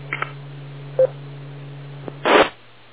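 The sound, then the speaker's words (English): A few short telephone keypad dialing tones beep over a steady low hum, spaced irregularly, followed by a louder, rougher burst of noise near the end. No one speaks. “Just a phone call.”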